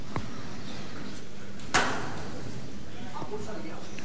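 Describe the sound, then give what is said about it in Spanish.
A single sharp, loud knock from the metal knocker of a procession float, struck by the foreman as the procession begins to leave through a doorway, rings out near the middle, standing clearly above a steady murmur of crowd noise and voices. “golpe de llamador.”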